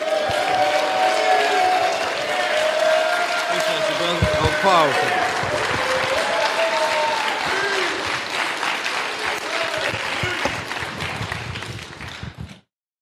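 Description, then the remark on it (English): An audience at an event in Oakland applauds steadily for about twelve seconds to welcome the speaker 19 Keys, dense clapping with scattered cheers and whoops, loud and sustained before cutting off abruptly. “I need everybody to give a warm welcome to my brother, 19 Keys.”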